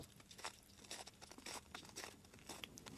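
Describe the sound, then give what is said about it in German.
Footsteps of a person walking on foot over frozen snow in the morning at a steady walking pace, each step a crisp, gritty squeak-crunch, quietly recorded, with no voices. “Ja, das ist dieser herrliche, knirschende Schnee, den wir da gehabt haben.”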